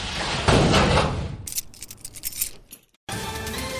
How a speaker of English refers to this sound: Shut the door. Don't forget to lock it.